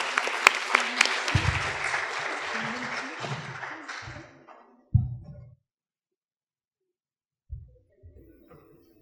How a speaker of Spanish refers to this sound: Entonces vamos a darles un fuerte aplauso para que puedan iniciar con este tema, por favor.